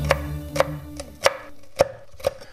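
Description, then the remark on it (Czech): A knife chops crunchy pork cracklings into smaller pieces in five or six sharp, crackly strikes about half a second apart, over a low steady hum, with no one speaking. “To křupou škvarky, prosím vás, ne?”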